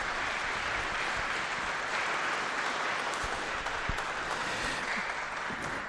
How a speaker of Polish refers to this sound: Myślę, że za tę drogę to też już brawa.